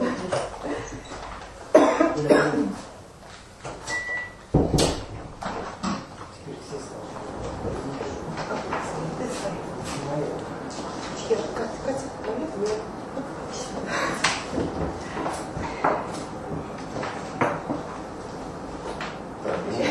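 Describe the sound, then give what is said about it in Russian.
A door is pushed shut with a couple of sharp thuds early on, alongside a cough and indistinct voices, followed by steady rustling background noise. “Дверь закрывай, потому что мы сейчас включим позиционер.”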